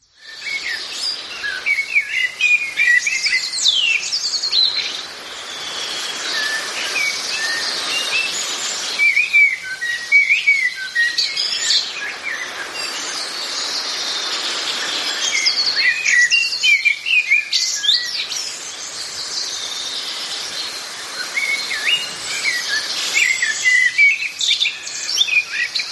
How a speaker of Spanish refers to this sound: Y del ruiseñor pasamos al pájaro más humano, o más pajaril en este caso, el segundo del top, que sería el mirlo.